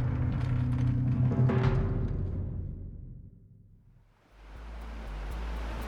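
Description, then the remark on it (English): Ocean waves wash onto a beach under a pier in Marseille, a steady rushing roar that briefly recedes and quiets before the next wave breaks and surges back in with a broad hiss. “stood under a pier in Marseille, the sand ending in waves a few feet behind her.”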